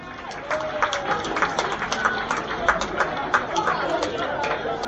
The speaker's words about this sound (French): Bravo, on peut les applaudir.